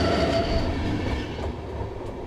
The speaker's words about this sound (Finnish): Kun juna kiitää halki metsien ja peltojen, jäävät tehokkaan nettiyhteyden mahdollistavat tukiasemat jonnekin kauas sinne, missä on asutusta.